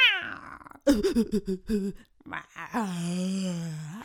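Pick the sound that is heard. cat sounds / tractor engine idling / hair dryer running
cat sounds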